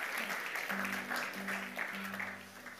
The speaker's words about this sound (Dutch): Zullen we nog applaus geven voor de prachtige worship? Wauw.